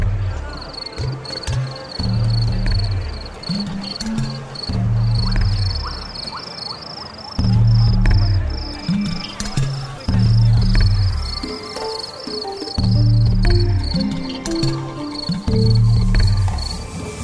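Fighting crickets chirp in steady, rapid pulsed trills that continue throughout, above a busy, loud low-pitched background with what sounds like voices mixed in, on a street in Kunming where middle-aged local men gather for traditional cricket fighting.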